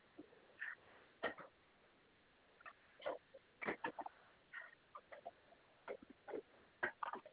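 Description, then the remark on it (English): A sick guinea pig squeaks and chirps in a run of short, uneven bursts, fairly quiet and somewhat muffled, with brief pauses between calls and no voices. “I have a sick guinea pig”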